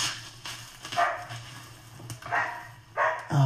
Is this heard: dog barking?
yes